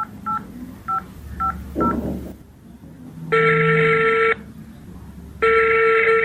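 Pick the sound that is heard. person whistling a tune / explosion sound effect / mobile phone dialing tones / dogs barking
mobile phone dialing tones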